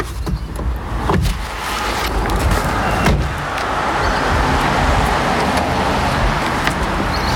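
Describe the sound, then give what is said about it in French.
A car, not a race car, drives along the road in the canton of Bern toward the Top Car Sport team at Wettendorf, with a steady rumble of engine and tyre noise, broken by a couple of sharp thumps near the start, like a door shutting. “Alors là, je monte dans votre voiture, c'est pas votre voiture de course.”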